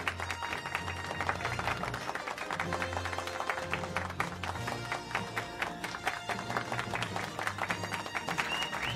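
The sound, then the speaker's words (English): An audience applauds steadily for the newly announced chess champion of the term's competition in Iran, a dense, continuous patter of many hands clapping that holds at an even loudness throughout, with a faint sustained tonal hum beneath it. “Congratulations. Applaud, applaud.”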